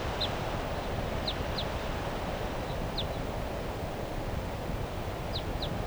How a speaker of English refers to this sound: That bird 377 I think is still here calling from the treetops just above the car. But I don't see the bird.